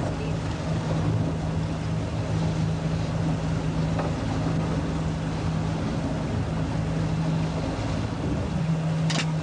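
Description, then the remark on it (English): A small outboard boat motor drones steadily, a constant low engine hum with water and wind noise around it, running without pause for the whole stretch as the boat is turned around while fishing. “I know, but we got to turn the boat around.”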